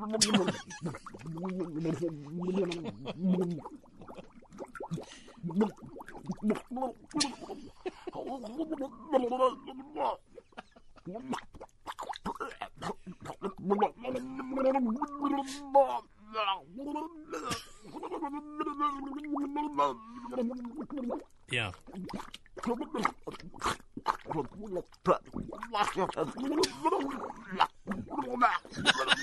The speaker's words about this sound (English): Drowning from the classic Scary Sound CD that you can get on eBay for $3.91.